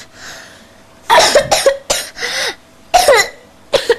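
human body sound, cough

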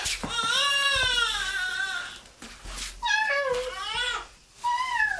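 animal, cat meowing

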